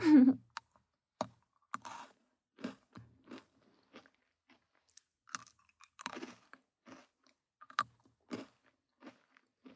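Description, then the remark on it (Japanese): Crisp crunching of Pocky biscuit sticks being bitten and chewed, a steady series of sharp crunches in an otherwise quiet room, no talking. “なんかさ、静かな部屋にポリポリってポッキー食べる音だけ響いてるって面白いね。”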